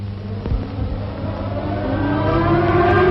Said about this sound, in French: Et pour la première fois, le cri des sirènes devient un chant.